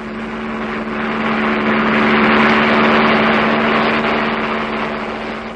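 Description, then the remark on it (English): A loud, steady roar of aeroplane engines with a low droning hum, swelling slightly in the middle and holding continuously for several seconds with no voices. “We've got to look at the size of those aeroplanes.”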